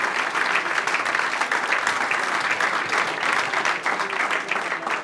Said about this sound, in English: Big round of applause to Team Club and Team Poker Stars.